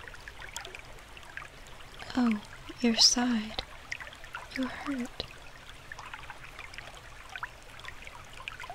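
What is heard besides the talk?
flowing river water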